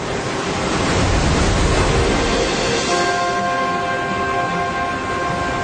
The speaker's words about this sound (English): off the east coast of Australia, up to 200 kilometres offshore, a line of surf rises out of the open ocean.